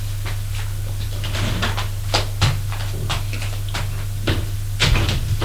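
A steady low mechanical hum runs throughout as an elevator rides up to an upper floor, broken by several sharp clunks and rattles of sliding elevator doors and machinery. No voices are heard.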